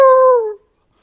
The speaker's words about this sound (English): Immediately the wolf but barks, his wolf noise.